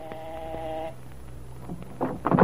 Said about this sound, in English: Some little time had passed before the door buzzer rang, a long, impatient ring.